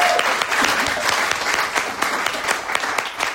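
Steady audience applause at a meeting, given as another round for a speaker who has just shared her story; a dense patter of many hands clapping, holding at a fairly even loudness throughout with no voices breaking through.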